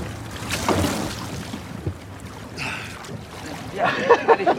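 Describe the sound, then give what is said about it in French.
A boat churns through water with a steady low engine rumble, sloshing wake and splashing waves as it makes a wave, louder bursts of spray near the end, with faint voices in the background. “Hey, t'as vu la belle vague que je te fais?”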